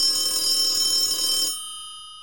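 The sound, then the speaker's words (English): A telephone rings once on an outgoing call, in a harsh, bright, bell-like burst lasting about a second and a half, then stops abruptly with a faint ringing tone fading away. No one speaks. “I'm going to call Twitter right now, and I'm going to get my damn blue check mark.”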